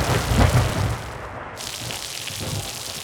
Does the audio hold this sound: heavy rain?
yes